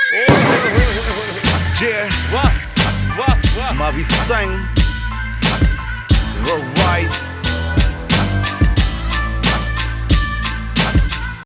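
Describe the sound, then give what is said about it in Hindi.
A horse whinnies with a shrill, wavering neigh in the first few seconds, set over a loud, steady thumping music beat that continues throughout. “रे पाशे कर अपनी BMW, इससे महंगा तो मेरा घोड़ा है।”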